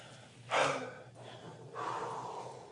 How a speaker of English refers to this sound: But first of all, we just want to catch our breaths. Y'all breathing all right back there?